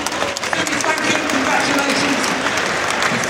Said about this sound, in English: I think it's as good as launched. Round of applause for eFoldy.